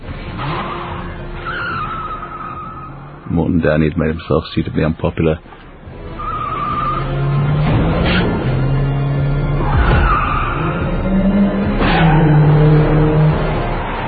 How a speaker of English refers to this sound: To try and do a car chase in nighttime in Los Angeles, and nighttime anywhere, is very expensive, because everything has to be lit and you have to see so much stuff.